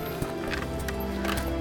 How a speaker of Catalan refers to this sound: Al capvespre, la Regina arriba a la masia de Luc manant un carro d'un cavall i porta Luc a dins.